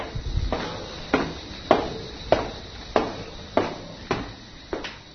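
Footsteps on stairs leading up to a terrace overlooking the town of Kvadarce and the Tikveš valley: about eight steady, evenly spaced scuffing thuds, each fading quickly, with a faint continuous high-pitched buzz underneath.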